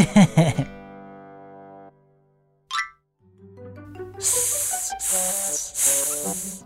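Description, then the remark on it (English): A voice imitates a pipe snake's hiss with three drawn-out, sibilant hisses in quick succession, loud over soft tuneful music, after a brief vocal sound and a short chirp. “Went the pipe snake.”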